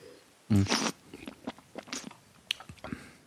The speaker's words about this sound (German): Also den anderen, warte, ich muss mal runterschlucken. Ich schlucke die ganze Zeit aus, weil ich ein bisschen kränkle und es mir nicht noch weitergeben will.